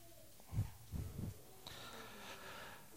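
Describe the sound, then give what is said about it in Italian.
A person clears their throat in three short, low, rasping bursts within about a second, before reading aloud from the Song of Songs, chapter 1; then quiet background noise with a faint hiss follows. “Vediamo di schiarire la voce se ci riusciamo.”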